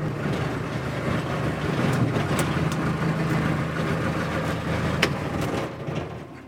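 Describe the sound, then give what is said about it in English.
A small skiff's motor drones steadily on a 3-minute boat ride out to a Martin Mars flying boat at a seaplane base, a constant low rumble with a faint hum that holds throughout before easing slightly at the very end. No one speaks. “To get a peek inside the Martin Mars, first you take a 3-minute boat ride in a skiff that travels as part of the support entourage.”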